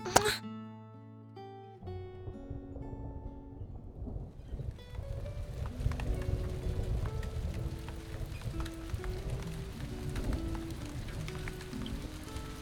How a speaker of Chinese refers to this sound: 哎，亲爱的，那边是不是下雨啦？我好像听到雨声了。